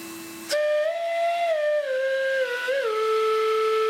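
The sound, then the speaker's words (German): A breathy, airy pipe tone from an old vacuum cleaner rigged as a flute, its motor reversed to blow air through its metal tube, jumping up in pitch after a low note, then holding steady with slow sliding bends, loud and continuous with no talking. “Auch aus einem uralten Staubsauger stellt er ein Instrument her.”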